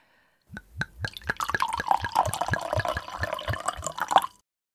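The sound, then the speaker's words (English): A drink being poured, the liquid glugging in a quick, steady rhythm of about a dozen bubbling pulses over a continuous splashy trickle, then stopping abruptly. “So I'm going to bring him on first and set the scene and pour, what should I pour him? A white wine spritzer?”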